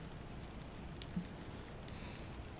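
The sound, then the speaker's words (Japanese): Steady rain falling, a soft continuous hiss with scattered drops and one slightly louder patter near the middle; quiet, with no voices. “ねえ、雨足が弱まるまで一緒に雨宿りしても構わない？”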